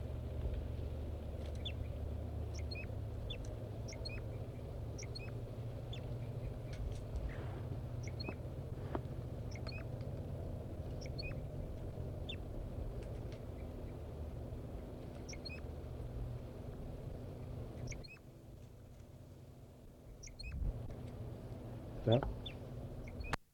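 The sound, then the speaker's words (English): Wild birds singing from the top of a deciduous tree about 50 to 60 meters away: thin, high chirps and short notes repeat in scattered bursts throughout, fairly faint over a steady low rumble of background noise. “4-3 is in song and singing robustly, but it doesn't seem to be affecting the birds.”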